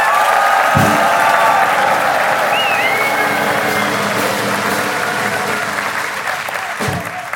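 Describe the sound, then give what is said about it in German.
A crowd gives loud applause for the favourites, steadily for several seconds, a dense wash of clapping that stays loud throughout, with a couple of faint whistles rising above it. “Wir können das ja immer gut probieren, also A, gibt mal richtig luten Applaus für die Favoriten, so ja.”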